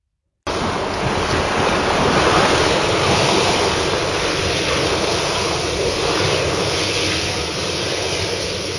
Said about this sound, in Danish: Lyden af bølgerne, der skvulpede mod skibet, lullede dem næsten i søvn, mens de alle spejlede efter lyset fra Soløen.